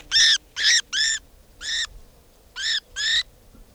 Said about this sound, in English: This now is bird 490.